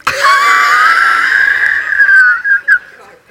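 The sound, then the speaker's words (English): A person attempting a goat impersonation that comes out as a sheep gives a loud, drawn-out, wavering bleat lasting about two seconds, then two short bleating bursts. No one talks over it. “That was my best goat impersonation, but it wasn't good. That was a sheep.”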